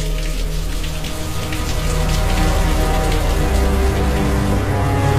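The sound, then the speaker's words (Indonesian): Steady rain patters and hisses at a moderate, even level as it begins to ease off at night, heard from a sedan car driving through it, with a low droning rumble underneath and no voices. “aku dan pacarku Reina yang duduk sebelahku melajukan mobil sedanku ini di antara hujan yang mulai mereda malam itu”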